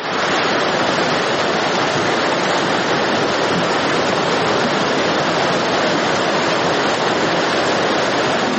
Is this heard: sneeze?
no